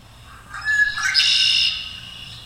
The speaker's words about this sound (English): I brought along some recordings of some birds. I'll play them. And you can do a guessing game later on if maybe you'll hear some of these in the piece of music.